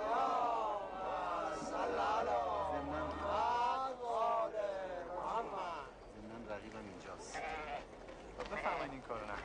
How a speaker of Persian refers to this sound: آقا جون، این گوسفند رو ببرید دم منزل.